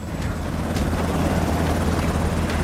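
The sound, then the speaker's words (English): A helicopter lifts off amid a crowd of costumed people with men struggling on board, its rotor beating in a steady low throb over a dense wash of engine noise, loud and continuous throughout. “The agent jumps on board and tussles with Sciara as the helicopter lifts off.”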